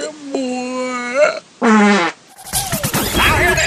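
A loud, buzzy fart sound effect lasting about half a second, set between a drawn-out vocal tone and a burst of noisy, chaotic sound effects.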